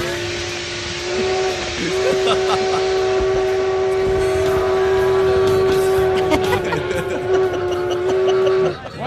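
A loud, sustained train whistle blows steadily for several seconds, a bright steady tone with harmonics over rumbling, hissing background noise.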